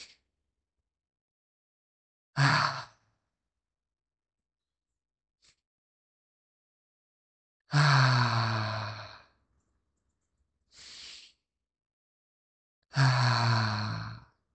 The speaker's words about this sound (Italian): Metti le mani sul tuo cuore, fai un sorriso al tuo cuore e con questo sorriso fai 3 respiri profondi.